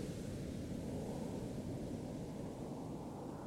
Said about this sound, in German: Der Wellen, die hier schon seit Jahrtausenden ans Ufer schlagen. Ein zeitloses Kommen und Gehen der Wellen. In einem gleichmäßigen Rhythmus.